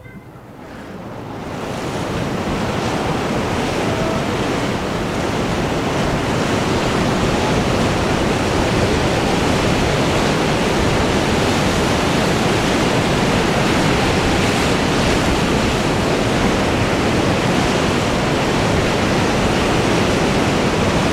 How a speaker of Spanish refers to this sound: Parece claro que estamos escuchando agua, ¿no? Algunos animaría a decir, más precisamente, qué tipo de agua, en dónde, en qué parte del Uruguay, de qué parte del Uruguay fue registrado este sonido.